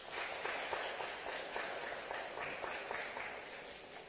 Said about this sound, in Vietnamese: Nếu tất cả các quý vị thấy điều này là thích hợp và mình dư sức để làm được thì hãy dâng cao tràng pháo tay.